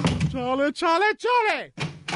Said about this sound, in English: What are you doing with the door? Well, please time, stop opening and closing the door. Every time I hit the door, you change the personality.